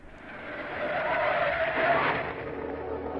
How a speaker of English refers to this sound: Don't ever jam your brakes on like that. I didn't jam them, it just stopped. I can't figure it out.